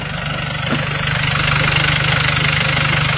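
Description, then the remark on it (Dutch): A Volkswagen Transporter diesel van engine idles steadily, a low, even rumble with a fast regular clatter and no pauses. It is fairly loud and alone, without any talking. “Geluid van een VW-transporter diesel.”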